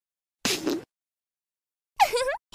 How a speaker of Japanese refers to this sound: まだまだ行くわよ。君の肺に入りきらないくらい私のおなら詰め込んであげる。